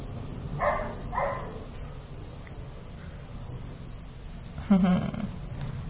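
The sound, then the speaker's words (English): A cricket chirps steadily throughout, a thin high-pitched trill repeating in an even rhythm over a low background hum, with a few brief louder noises breaking in. No one speaks. “I hear crickets right now. That sounds like a cricket to me.”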